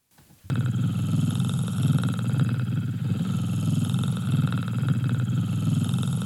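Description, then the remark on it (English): Jeff Goldblum imitates a cat purring for ASMR: a steady, low, throaty rumble with a fine rapid flutter. It starts after a brief pause and continues loudly and without a break to the end. “So here, this is Jeff Goldblum just purring for ASMR.”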